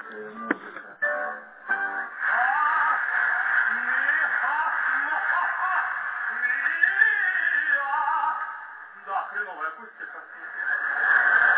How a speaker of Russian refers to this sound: Я сейчас выключу телевизор.